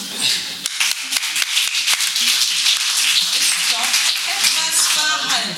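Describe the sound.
Subdued applause from a group, a steady patter of overlapping hand claps lasting several seconds at moderate volume, with faint voices murmuring underneath toward the end, given after the thesis that travel agencies can no longer offer service without a fee is read out.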